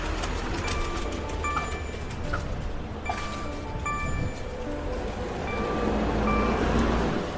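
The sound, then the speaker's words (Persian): Buses rumble past at a bus stop in a steady, heavy low drone of engine and traffic noise, with brief thin high-pitched squeals and whines cutting in now and then. No one speaks. “خب اینم که الان شنیدید دیگه صدای اتوبوس هایی.”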